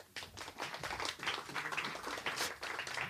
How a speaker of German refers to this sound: Ihr beiden macht das top. Ihr kriegt auch einen Applaus.